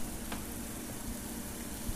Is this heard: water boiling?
yes